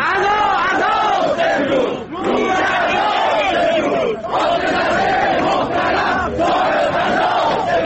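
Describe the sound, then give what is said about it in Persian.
A large crowd of protesting retirees in Tabriz, Iran, chants slogans against Ebrahim Raisi and his government in unison, loud and continuous, with rhythmic rising phrases broken by brief pauses about every two seconds. “بازنشستگان معترض در تبریز شعارهای علیه ابراهیم رئیسی و دولتش سر دادند.”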